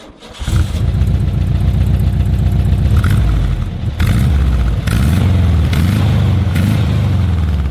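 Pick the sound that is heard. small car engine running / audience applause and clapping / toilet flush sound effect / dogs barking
small car engine running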